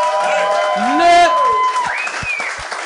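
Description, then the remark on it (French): A crowd cheers and applauds, with rising whoops and shouted voices over a steady wash of clapping that holds fairly loud for a few seconds. “Fait que bravo, on devrait l'applaudir.”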